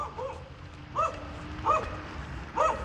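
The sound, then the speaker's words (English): A small dog being walked by a man outdoors in the morning barks four times in short, high-pitched yaps spaced about a second apart, over a steady low rumble of outdoor background noise. “Dogs, man. What are you going to do?”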